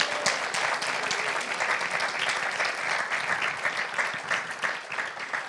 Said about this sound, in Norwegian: Det var fint, det er lov å gi en applaus.